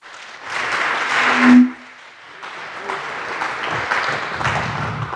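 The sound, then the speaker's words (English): A room full of people claps steadily for two speakers about to present on bypassing secure boot in embedded systems, a dense burst of applause that swells briefly near the start and then settles into a softer, continuing patter. “Okay, give a warm applause”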